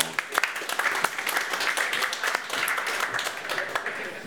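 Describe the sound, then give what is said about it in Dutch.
Sustained applause from an audience, a dense crackle of many hands clapping at a steady, fairly loud level for several seconds, with faint murmurs of voices mixed in. “Een applaus”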